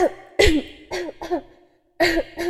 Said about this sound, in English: There's blood in your mouth and on your handkerchief. Did you have another coughing fit?